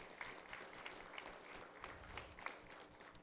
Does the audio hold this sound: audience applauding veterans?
yes